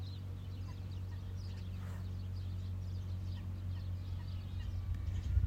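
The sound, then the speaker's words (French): Scattered, faint bird calls chirp throughout, heard from the shade of a sycamore at the first cataract, partly masked by a steady, loud low engine drone from a motorboat passing in the distance. No one speaks. “Il passe au loin, on entend encore les cris des oiseaux.”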